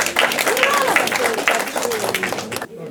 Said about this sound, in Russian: Ваши дополнительные аплодисменты.